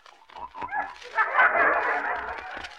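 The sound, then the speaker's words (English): A person snoring loudly: a few short whiny, nasal snorts give way to a long, harsh, rattling snore that holds steady for over a second, with no talking. “Who in Tunkett's that snoring?”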